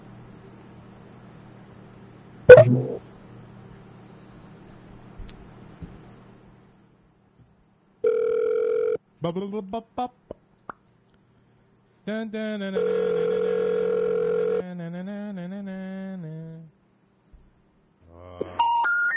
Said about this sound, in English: You have dialed a number that is not available from your account.